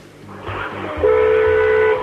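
A single steady car horn honk from a Rover 400 in the Hyper Value Car Park in Bridgewater, sounded from inside the car with the window wound down, lasting about a second, a flat mid-pitched tone that sounds somewhat distant over a low background rumble.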